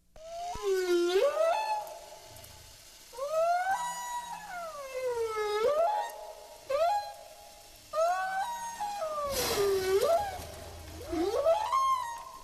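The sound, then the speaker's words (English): Whale calls in a series of long, sweeping moans and rising-falling whistles, each several seconds long with rich harmonics, separated by brief pauses, fairly loud and with no talking. “It's what the whales are talking about.”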